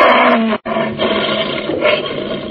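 Sayyid Khalif's captive lion at his palace in Zanzibar roars loudly on a moonlit night, a rough, rumbling bellow that cuts off for a split second and then surges on with a second sustained roar, with no voices present.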